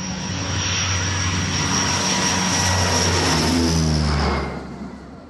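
A loud, steady airplane engine drone during flight, a broad roar with low humming tones underneath, holding constant before easing down slightly near the end. No one speaks.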